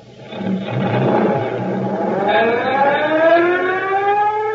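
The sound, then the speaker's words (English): A fire engine siren winds up as the fire brigade heads out to a fire, its loud wail climbing steadily in pitch over a low rumbling engine, with no voices. “I'll see you at the fire.”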